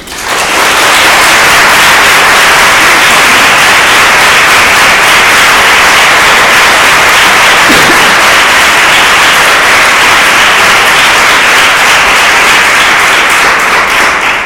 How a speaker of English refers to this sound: Keep going, because I'm still writing my name. She needs more applause.